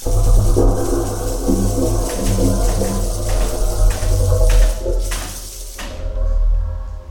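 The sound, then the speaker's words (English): Old plumbing in an old house groans and rumbles loudly, a deep droning hum with knocking, clanking accents scattered throughout, settling into a lower rumble near the end. No one speaks. “Well, in such an old house, there are always a few plumbing problems to be expected.”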